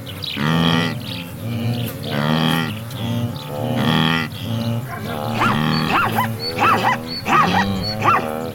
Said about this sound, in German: Das zum Schluss gerade, das war nochmal ein Zebra, vermutlich eine Zebrastute, die ihr Fohlen in dieser Masse aus Tieren sucht. Weil jedes Tier eine einzigartige Stimme hat, erkennen sie einander auch über längere Distanzen.